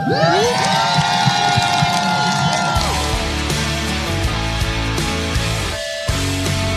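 crowd, crowd cheering

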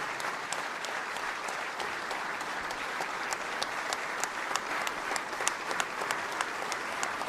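crowd, thunderous applause

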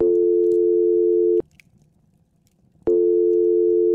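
signal or alarm, telephone ringing tone

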